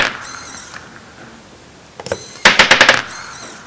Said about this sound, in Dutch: Dus we hebben even gekeken hoe we dat kunnen maken, zodat het met één druk op de knop het motortje een klein stukje draait, balletje doorlaat en weer terug laat lopen. En dat ziet er dan zo uit.